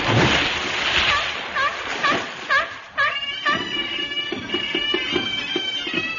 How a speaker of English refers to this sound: You imposter, that's a seal. But why the bagpipes? It's the great seal of Scotland.